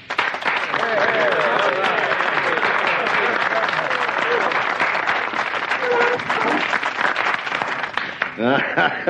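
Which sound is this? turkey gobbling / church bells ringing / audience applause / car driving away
audience applause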